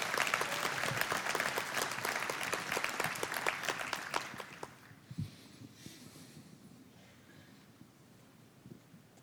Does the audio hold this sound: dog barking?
no